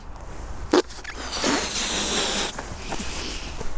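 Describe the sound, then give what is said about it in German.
A balloon lets its air rush out in a steady, high, breathy hiss that sputters and wavers for a few seconds, marked by a short sharp squeak near the start. “Luftballon.”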